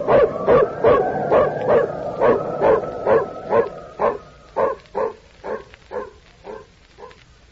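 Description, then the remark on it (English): A female dog barks in a rapid, steady string of about fifteen yelping barks with a whimpering edge, loud at first, then growing slightly fainter and more spaced toward the end. “And don't forget the pooch. She's the one that found us.”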